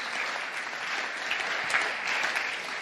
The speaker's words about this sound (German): Und lass uns Gott für das einen Applaus geben.